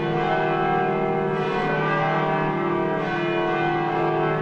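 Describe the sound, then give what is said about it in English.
The church bells of the Cathedral Basilica in Denver peal continuously in a dense, overlapping wash of ringing tones, loud and sustained with rich lingering overtones, as several bells sound together celebrating the announcement of a new pope, Pope Leo XIV. “Those are the church bells at the Cathedral Basilica in Denver celebrating the announcement of a new pope.”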